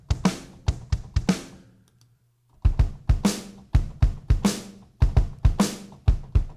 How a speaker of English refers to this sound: I'm sure you can hear my fingers on the keyboard.